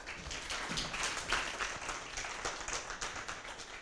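An audience applauds steadily to welcome a speaker before a talk on artificial intelligence, many hands clapping in a dense, crackling wash that holds at an even level for a few seconds with no voices.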